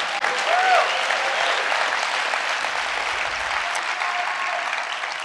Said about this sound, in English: Thank you. Let's clap that up because I need some energy.